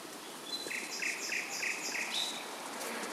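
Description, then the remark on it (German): A bird, supposedly a nightingale, sings a repeated series of bright, pulsing notes in a steady rhythm over a soft outdoor hiss with no voices. “Und nähern uns dem Heimatort der vermeintlichen Nachtigall.”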